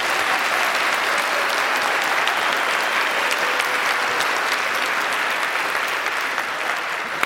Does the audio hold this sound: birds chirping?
no